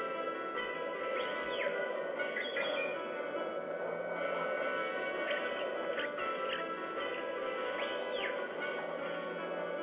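Birds chirp in short, repeated rising and falling calls, scattered across a steady, hissy background; the calls come in small bursts every couple of seconds and stay fairly soft.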